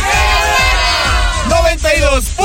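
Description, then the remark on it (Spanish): A crowd of voices roars a loud, sustained battle cry in unison, the shouts rising and sliding in pitch as they overlap for a couple of seconds. “Nos vamos a despedir, ya se la saben, el grito de guerra. Aquí suena.”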